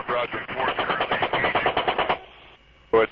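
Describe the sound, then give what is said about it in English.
Machine gun fire in footage shot through the gun's scope as an Apache helicopter crew hunts down insurgents trying to plant roadside bombs: a long, rapid burst rattles in a steady rhythm for about two seconds, then a brief lull with a low hum before another loud burst starts. “Scroll down the page, and another video shows footage shot through the scope of a machine gun as an Apache helicopter crew hunts down insurgents trying to plant roadside bombs.”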